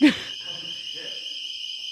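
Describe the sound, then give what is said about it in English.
A door alarm, set off by opening a door that is never supposed to be opened, blares with a steady, piercing electronic tone that holds unbroken throughout, preceded by a brief thump at the very start, with faint background rustle underneath. “The ball alarm.”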